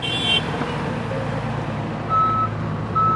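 A large truck idles with a heavy, rumbling engine while its reversing alarm sounds two steady, high electronic beeps near the end, fairly loud.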